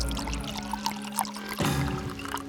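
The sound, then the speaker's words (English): Wine pours steadily into a large glass, a continuous gurgling splash whose pitch shifts partway through as the glass fills, with no voices. “Colum poured himself a large glass of wine.”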